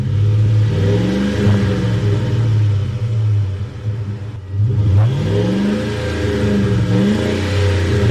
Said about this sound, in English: We've got Dieter outside, and he's revving the engines in the Ford F-150 there in the parking lot of the station.